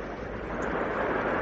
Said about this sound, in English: I think I can hear waves again.